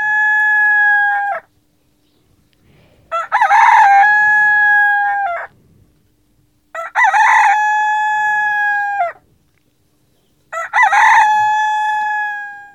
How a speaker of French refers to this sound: Tandis que le coq, réveillé par le bruit et déjà tout alerte, criait du haut de sa solive.